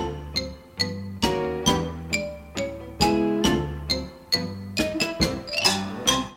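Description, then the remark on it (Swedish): Drinking glasses are struck again and again, about a dozen bright ringing clinks at an uneven pace. Each chime holds a clear tone that slowly fades, with pitches shifting like a simple tune. “Med de där glasen kan du inte lacka ut längre. Du behöver vara snäll med de där.”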